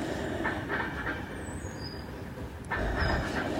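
A train rolls along the rails with a steady low rumble, thin metallic wheel squeals rising above it, and the noise swells a little louder toward the end.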